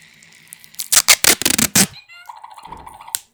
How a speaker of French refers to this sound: Du scotch.